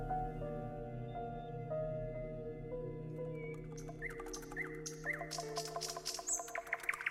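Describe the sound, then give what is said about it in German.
A nightingale sings bright whistles, chirps and rapid trills in the second half, fairly loud, over a steady low droning tone that runs throughout. “Die Faszination für die Nachtigall ist immer noch sehr lebendig, auch bei Künstlern der Gegenwart.”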